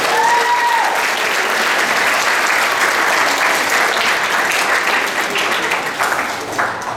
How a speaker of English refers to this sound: Please step forward and do a couple of poses, everybody can get your picture. And one more round of applause